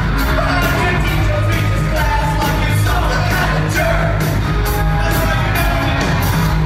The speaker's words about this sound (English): Someone on a cell phone put this on Facebook. Listen to the crowd get into it on the chorus.